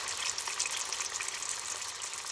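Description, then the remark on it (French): Steady crackling sizzle of breakfast frying in a pan heated by biogas piped from a digester, a dense bright hiss with tiny pops running continuously, no voices. “Un tuyau relié à un support permet de faire chauffer une casserole ou une poêle, de quoi préparer un petit déjeuner consistant à l'ensemble de la communauté,”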